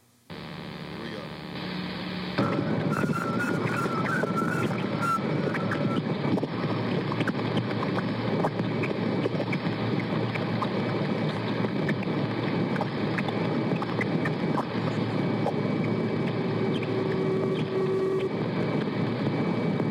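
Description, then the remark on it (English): Sonified data from the Voyager spacecraft crossing Jupiter's bow shock, the wave Jupiter makes plowing through the solar wind: a low, steady hum suddenly jumps at about two seconds into a loud, dense, wind-like roar with faint whistling tones, sustained without talk. “What you're about to hear is the little Voyager spacecraft crashing through that wave on its way to Jupiter. I hope that's what we hear. Jovian bow shock.”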